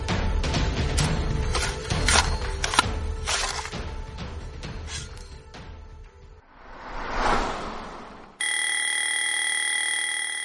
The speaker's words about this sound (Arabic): بكر يبدأ يوما جديدا حينما يدق جرس المنبه، وحينما ينقطع خيط الحلم بمقص الرقيب، وحينما يخترق الرنين خلايا مخك لينفض خلية خلية.